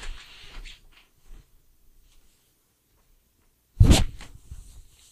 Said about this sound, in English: That was the sound of my pants.